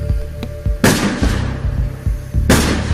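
Firework bangs burst out loudly, a sharp crack followed by a second blast about a second and a half later, each with crackling tails over a low rumbling background.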